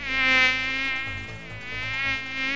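mosquito buzzing

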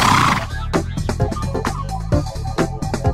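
horse neighing

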